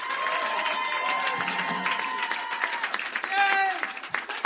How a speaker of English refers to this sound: That's the show. Thank you for coming. Thank you. New York Comedy Festival. Thank you. And keep applauding for Rachel Dratch was here.